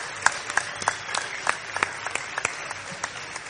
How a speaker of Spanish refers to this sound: Bueno, yo sé que le acabamos de dar un fuerte aplauso, pero quiero pedirle uno, pero más fuerte todavía, que se escuche llegando a Corrales o casi o más.